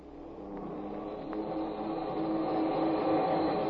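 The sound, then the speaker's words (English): The motors of a huge aircraft whine frantically as they draw it down toward the water, a steady, dense mechanical roar with humming tonal layers, swelling gradually louder over a few seconds, with no voices. “We hear the frantic whine of the motors as they draw the huge ship toward the water.”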